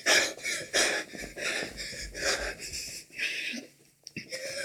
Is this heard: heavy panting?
yes